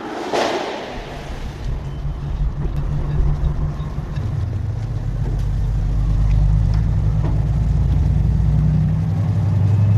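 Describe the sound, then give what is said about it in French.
A truck engine rumbles steadily, its low drone swelling slightly partway through, with a few faint clanks and knocks as trucks load fish at the fishing port of La Turballe, France, around 6 a.m. “Pendant que les camions chargent leurs marchandises,”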